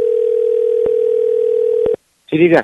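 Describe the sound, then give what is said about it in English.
A steady, loud telephone dial tone hums for about two seconds with a couple of faint clicks as a call is placed to a boutique, then cuts off abruptly before a voice begins speaking. “All right, I think I found the number to the boutique. I think this is going to be the last call I make.”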